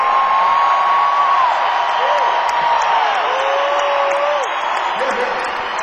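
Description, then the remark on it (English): A large concert audience in Cleveland cheers and applauds in a loud, unbroken roar, with several long sliding whistles and whoops rising above the crowd noise throughout. “We've been such a crowd, you know. Oh, yeah. What a crowd.”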